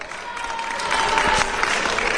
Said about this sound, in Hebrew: שידור חי, קניון רמות, איפה אתם? בואו נשמע שבאמת יש כאן קהל, בואו נשמע אתכם.